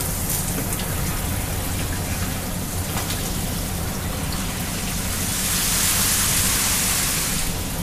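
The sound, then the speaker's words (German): A shower runs steadily in a sleeper car of a night train, a constant dense hiss of spraying water over a low rumbling hum, the spray growing brighter and louder toward the end. No one speaks. “Eine eigene Dusche gibt's hier im Abteil zwar nicht, aber einen Wagen weiter ist ein etwas anderer Schlafwagentyp und der hat eine Dusche, die noch dazu sehr sauber ist.”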